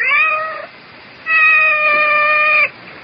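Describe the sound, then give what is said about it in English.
A female cat meows twice, a short cry followed after a brief pause by a longer, drawn-out wail, loud and clear with no other sounds around. “I seem to have this cat. She wandered in one day and simply stayed.”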